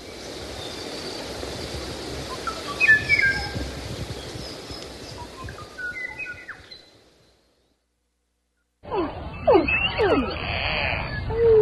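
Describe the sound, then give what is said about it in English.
Song of the Kauai O'o, a Hawaiian bird: clear, fluting whistled notes repeated over steady hissing background noise, breaking off into a few seconds of silence before another burst of calls over noise. “Behind us, the Kauai O'o, Hawaiian bird, Stuart Pym tracked.”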